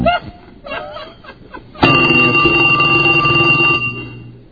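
After a brief jumble of chirpy sounds, a telephone ring on an outgoing call starts abruptly: one steady, loud electronic tone with bright overtones, holding for over two seconds before fading.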